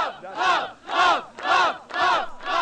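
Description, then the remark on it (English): A crowd at City Hall in San Francisco, California, shouting together in loud, rhythmic bursts about twice a second, a chant-like mix of cheers and jeers with many overlapping voices and no one speaking alone, as people celebrate or protest the state's first legal gay marriages. “There were lots of cheers.”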